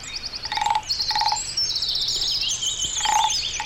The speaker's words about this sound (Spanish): sí, mi amigo sapo.